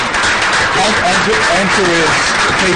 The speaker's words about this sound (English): But before we do that, I want to take a moment to welcome our special guest, the Right Honorable Alan Michael. So why don't we give a round of applause?